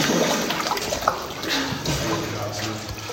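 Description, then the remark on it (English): Steady sloshing and splashing of water as people swim through water in a cave, ducking under stalactites that jut from the ceiling barely a foot above the water; a continuous churning wash with soft surges and gurgles, echoing slightly. “We swim and we duck under stalactites that jut out from the ceiling, their points hovering barely a foot above the water.”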